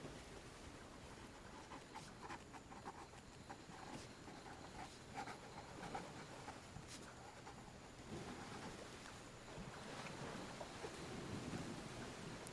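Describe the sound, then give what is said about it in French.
Steady wash of waves breaking on a sandy shore at Phu Quoc, Vietnam, with a low, continuous rumble of boat engines far off. Fairly quiet throughout, with no voices. “Au loin, les moteurs des bateaux ronronnent. L'écume tiède se brise sur le sable chaud.”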